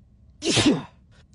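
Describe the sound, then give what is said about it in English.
A single sharp sneeze bursts out, a quick breathy explosion lasting under half a second before fading into quiet. “Oh, I thought we were coming with a big sneeze. We have all sorts of various sneezes on hand because you might be sneezing.”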